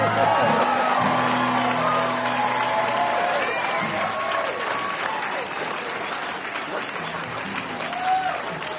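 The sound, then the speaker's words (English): Steady, dense audience applause for an 89-year-old speaker fills the whole stretch, a continuous wash of clapping that holds level throughout, with a faint voice and scattered cheers mixed underneath. “I get that kind of applause.”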